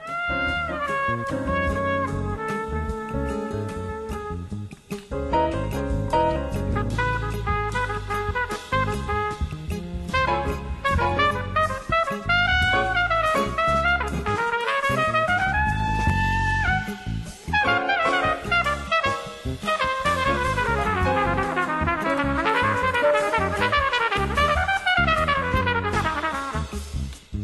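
A jazz trumpet plays an agile, bending solo line over a full accompaniment of piano, guitar and electric bass, loud, close and continuous throughout, with no voices.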